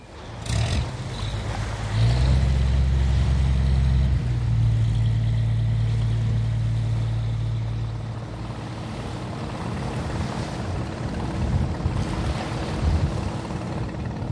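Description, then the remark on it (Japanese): Engines of fishing boats heading out to sea in the early morning at Noto, Japan, drone low and steady, loud at first, then easing slightly as the rumble carries on over a wash of water and wind. No one speaks. “能登の朝は早くから沖へ出る漁船でにぎわいます。”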